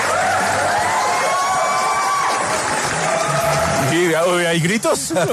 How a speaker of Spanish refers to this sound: Hay gritos, hay más emoción. Radioactiva, sí. The Rock Show de Radioactiva se hace con un público en vivo.